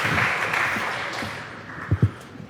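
A crowd applauds steadily, a dense wash of many hands clapping at even loudness, with a couple of sharper, louder claps standing out near the end.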